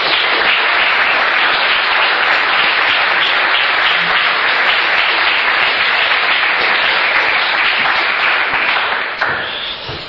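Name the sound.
audience round of applause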